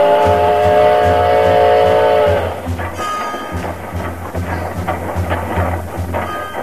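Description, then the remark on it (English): A wood-burning steam locomotive sounds a loud, steady whistle, then chugs along in a rhythmic series of heavy puffs over a low mechanical rumble, fairly loud. “He puffed and he panted, this old iron horse, black and smoking cinders, a mark in his course.”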